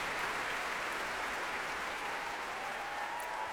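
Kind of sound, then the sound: crowd, concert hall audience applause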